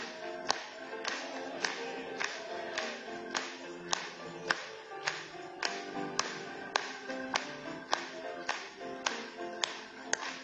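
An audience claps in steady rhythm, about two claps per second, keeping time over a sung hymn of praise. The claps are sharp and prominent throughout.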